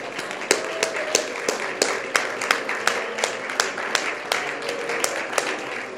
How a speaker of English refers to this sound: Would you clap your hands to the Lord right now?